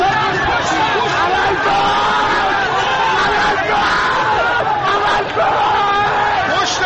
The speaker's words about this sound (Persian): اینجا محل درگیری میان معترضان و نیروهای ضد شورش است. چند نفر در میان جمعیت به سمت پل اشاره می کنند و ناگهان جمعیت هراسان و فریاد زنان به طرف پل می دوند.